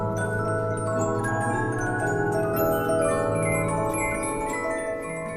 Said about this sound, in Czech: Zahrát si budou moci třeba na mechanický klavír, na takzvanou pianolu, do který se vlastně vkládá ten dlouhý papírový perforovaný válec a následně to přehraje ten záznam.